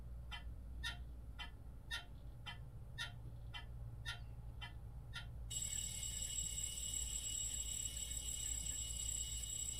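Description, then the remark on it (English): A steady clock-like ticking, roughly twice a second, gives way midway to a continuous shrill, high-pitched alarm clock ringing that keeps going to the end over a low hum. “The sound of an alarm stirs me from the dream world.”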